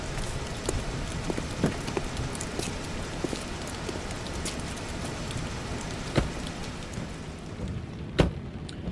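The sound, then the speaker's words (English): Steady, dense rain of a thunderstorm pours down with a constant hiss, broken by sharp drips and splashes, including two louder cracks near the end; no voices are heard. “Son, what the hell are you doing out here in a storm like this?”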